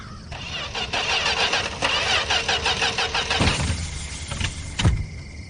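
A car engine cranks with a loud, rhythmic churning of the starter for about three seconds, then cuts off, followed by a couple of sharp mechanical clunks. No one speaks. The car is one of many at a cemetery, thought to all be broken.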